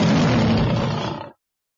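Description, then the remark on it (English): A single loud, deep lion roar, rough and rumbling, lasting just over a second before cutting off into silence. Full, with no voices. “They are lions. They're big.”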